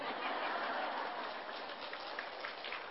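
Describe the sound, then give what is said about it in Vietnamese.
Sustained applause from a sizable Buddhist audience welcoming a teacher's Dharma talk, a dense, even patter of many hands clapping at once, steady and fairly loud throughout with no voices standing out. “Chiều nay chắc có lẽ là những tràng pháo tay của đạo tràng Phật tử cũng đã thay thế cho sứ ngôn viên trong cái buổi giới thiệu cũng như là cung thỉnh pháp thoại của thầy.”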